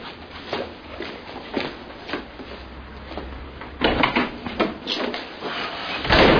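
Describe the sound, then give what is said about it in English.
A door opens with a rattle and thud, followed by shuffling footsteps as someone comes in, several scraping clatters bunching together toward the end, moderately loud. “What, you don't knock?”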